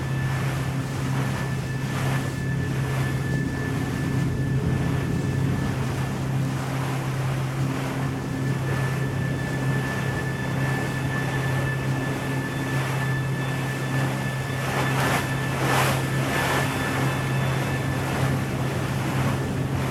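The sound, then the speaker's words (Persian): A motorboat engine drones steadily throughout, a continuous low hum over rushing water and gusty wind noise buffeting the microphone, with no voices present. “رفیقای من کجا قایقشون رو عوض کردن؟”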